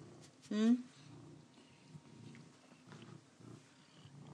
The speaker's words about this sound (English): As you can hear, he's purring very loudly.